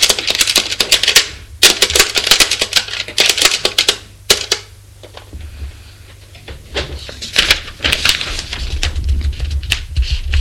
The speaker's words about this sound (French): L'autre écrit la déclaration sur un ordinateur.